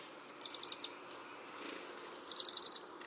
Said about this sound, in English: When a whole flock of chickadees moves into your yard, it looks as if they form a living conveyor belt. One chickadee after another flies to the feeder and then leaves with a seed.